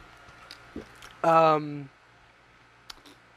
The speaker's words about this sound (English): And excuse me as I drink some water.